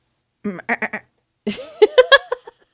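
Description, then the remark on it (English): A person imitates a goat's bleat with two fairly loud vocal bursts: a short stuttering one, then a longer, wavering, nasal bleat with a shaky quaver. “I feel like I need to do the sound effects for all these animals.”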